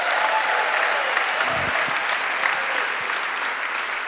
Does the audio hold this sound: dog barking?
no